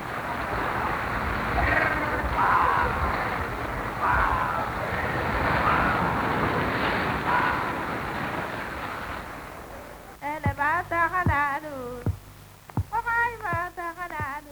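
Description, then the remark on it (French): A steady roar of surf fills the first ten seconds with faint voices under it, then boatmen's howling cries as they cross the surf bar at Accra rise and fall in long wavering bursts, loud and overlapping, with brief pauses between. “Hurlement que poussent les bateliers en franchissant la barre à Accra.”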